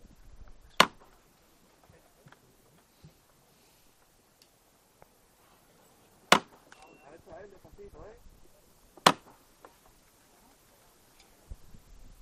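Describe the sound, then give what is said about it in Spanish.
The foreman's hammer on the procession float of the Virgen de los Reyes, with a cherub at her feet, knocks three times before the float is lifted: loud, sharp metallic strikes spaced several seconds apart, over a quiet background of faint crowd murmur and scattered small clicks. “La tenemos justo ahora mismo de cara, con ese querubín también que está a sus pies, y escuchamos el martillo.”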